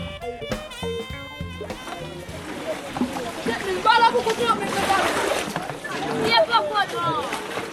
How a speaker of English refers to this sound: It's late afternoon on Sunday in downtown Port-au-Prince, one of 2 days a week when water flows for a short time from public faucets on Saint-Martin Street. Women and children fill plastic buckets to the rim